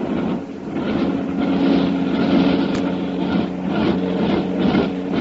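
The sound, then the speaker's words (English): A steady, droning engine hum with strong low tones and a broad rumble from the propeller motors of Karnak's plane swinging back over the lake, holding fairly loud for the whole stretch with slight swells. “Listen to those motors.”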